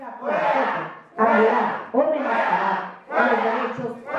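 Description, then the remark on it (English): A large, angry protest crowd in the Baja California state legislature chants loudly in unison, shouting "Fuera, fuera" ("out, out") at a congresswoman reading a marriage equality bill, in steady rhythmic bursts of roughly one per second, growing louder, with dense overlapping voices and no pauses for quiet. “And she was met by the loudest crowd I'd ever heard shouting out, Fuera, fuera, out, out, out.”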